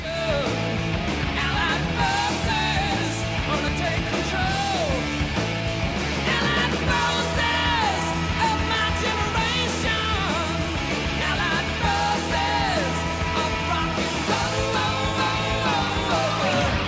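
A loud, dense rock track plays throughout, driving guitars and drums filling the mix while a high, strained vocal rises into scream-like wails at several points.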